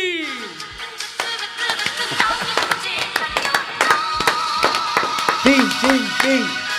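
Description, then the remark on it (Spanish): An audience gives strong applause for a person being introduced, with sharp, irregular claps that build and continue throughout, while voices talk and call out over them, ending with a few short rising-and-falling vocal cries. “Forte aplauso, por favor, para a nosa supernova.”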